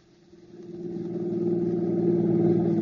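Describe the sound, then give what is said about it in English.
A stolen car's engine revs up, its mid-pitched hum swelling over the first second, then holding a steady, fairly loud drone as the vehicle pulls away. No one speaks. “Now we know we should stick to this hot car, right?”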